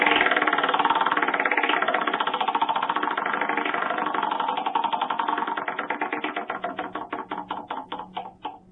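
A prize wheel spins with a rapid, steady clatter of ticks that gradually slows over several seconds, ending in distinct, spaced-out clicks as it winds down. No one speaks.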